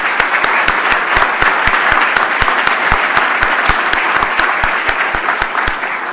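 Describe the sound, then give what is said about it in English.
Sustained audience applause in a room, for recognized members of the 2007 legislative session: a dense wash of many hands clapping at steady loudness for several seconds, with sharper individual claps standing out in a regular beat. “So if we could give them all a round of applause.”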